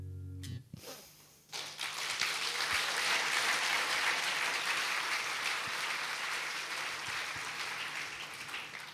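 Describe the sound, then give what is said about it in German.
Sustained, dense applause from a large audience for a band after a song, a steady wash of clapping that swells quickly after a short quiet start and holds loud throughout, with no voices. “Das Auftrittsprotokoll der Kapelle vorlegen, da wird da stehen, Rasen da nicht enden wollen, der Beifall.”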